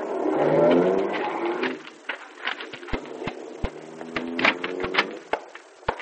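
vehicle, car driving up

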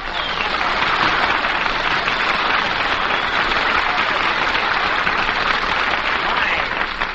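crowd, studio audience applause

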